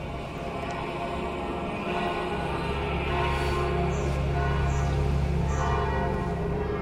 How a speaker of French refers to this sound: Alors là, c'est les cloches de Saint-Pierre que vous entendez, et puis de l'église paroissiale, parce que la messe va commencer.